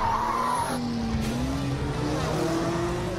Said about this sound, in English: Oh, there's a skid! Oh, and there's a wreck! The cars are piling up! Our champion swerves around it brilliantly.